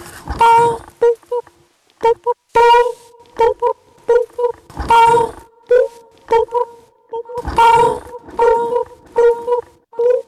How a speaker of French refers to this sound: Ça, c'est la grenouille, si tu veux